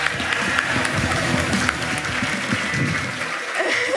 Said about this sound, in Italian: Un applauso per la scuola Aldo Moro!